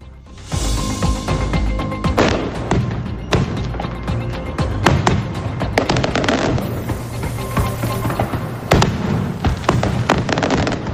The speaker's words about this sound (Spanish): un castillo de fuegos artificiales con 1.496 kilos de pólvora y casi 20 minutos de duración puso el colofón ayer tras las carrozas a las fiestas mayores patronales de Benidorm.